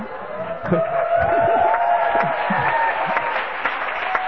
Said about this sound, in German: Es war noch sehr verhalten, was hier an Beifall kommt. Aber das wird sich ändern.